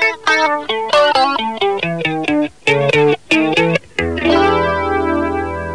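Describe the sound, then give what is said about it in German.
An electric guitar plays a quick run of picked notes, then lets a chord ring out, its tone swept by the whooshing, comb-like shimmer of a flanger effect. No voices. “Ein Flanger zum Beispiel kann den Klang einer Gitarre mit Schwebungen vielfältiger Art anreichern.”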